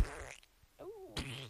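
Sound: fart sound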